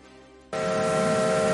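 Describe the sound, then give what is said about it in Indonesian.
A steam locomotive whistle at the Strasbourg Railroad, a heritage railroad, bursts in abruptly after a brief low rumble, blaring loud and sustained with a breathy hiss of steam through its chord-like tones. “Saya suka kereta, kata seorang anak laki-laki yang sedang menatap ke lokomotif besar itu.”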